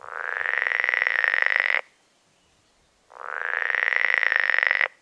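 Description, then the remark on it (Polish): Frogs croak in a pond while inflating their vocal sacs and seeking mates: two long, loud, buzzing trills, each lasting nearly two seconds and separated by a short pause, with a rapid rattling pulse throughout and no voices. “bo człowiek patrzy, jak one te balony robią i szukają partnerki, a w nocy one takie koncerty dają, że w ogóle spać nie można.”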